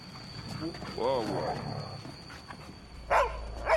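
A dog growls low at the steps of an old brick building, a rumbling snarl that rises and falls over a few seconds, followed by a brief louder burst of sound near the end.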